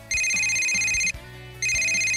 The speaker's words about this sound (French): au moment où il pose son sac, son téléphone sonne.